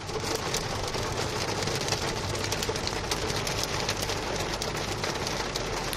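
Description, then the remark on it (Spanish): Hail pelts a car windshield during an afternoon storm, storm Olivier, in a dense, constant barrage of sharp ticks and taps over a steady wash of noise, fairly loud, with no voices. “Lo que escuchamos es granizo cayendo contra el parabrisas de un coche de uno de nuestros compañeros.”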